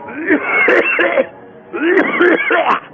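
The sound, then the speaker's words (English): Two rough bursts of repeated coughing and throat-clearing, each lasting about a second with a short pause between, loud with a muffled, band-limited quality like an old recording. “Somebody get me a cough medicine or a cigar or something.”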